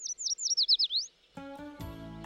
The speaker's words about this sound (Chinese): 灰猪剑还来不及安慰妮妮，就听到一阵清脆悦耳的鸟鸣。